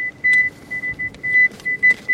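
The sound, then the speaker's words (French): An avalanche transceiver's analog signal during a multi-victim search with four victims: a steady high-pitched tone swelling into repeated louder beeps at uneven intervals, as if several signals overlap, over a low rumbling background hiss. “Ce qu'on entend, c'est ça. C'est le son analogique, quoi.”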